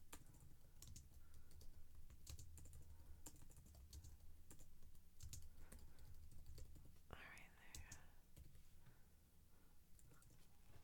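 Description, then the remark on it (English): Steady, irregular clicking of fingers typing on a computer keyboard while someone drinks coffee, fairly quiet, with a brief soft breathy noise partway through. “Typing, coffee drinking.”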